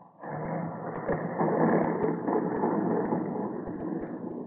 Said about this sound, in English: Meanwhile, the pilot is winging his way. Suddenly, his engine begins to miss. In a moment, he knows he must make a forced landing. Treading a field, he noses the plane downward.